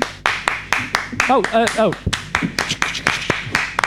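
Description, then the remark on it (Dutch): Several people clap together in a steady, quick rhythm, sharp loud claps about four per second, while voices briefly call out or sing over the beat midway through. “Kunnen we klappen?”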